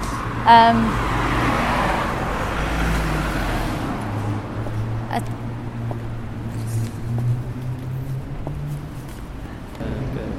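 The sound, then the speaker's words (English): Steady road traffic of cars and buses coming round a corner just past a Tesco's, driving quite fast and flowing freely, with low engine drones from cars and a heavier bus-like hum shifting pitch as vehicles pass; a brief sharp clatter sounds early on, and no one speaks. “it seems like you nearly get run over, because just past Tesco's the cars come round the corner, so you can't really see them coming, and lots of buses come round here.”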